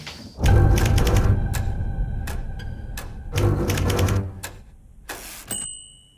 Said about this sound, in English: Never has a typewriter sounded so menacing.